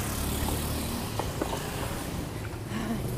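Steady, loud street traffic noise with a continuous low engine rumble from many passing motorbikes, heard on a hot morning walk while crossing the street between the bikes, broken by a few brief clicks and small tonal chirps, with no voices.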